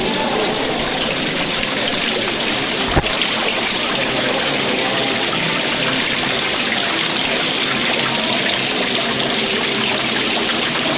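Three fountains splash steadily into a small pool, a dense, constant watery hiss that never lets up, with one brief click partway through and no voices.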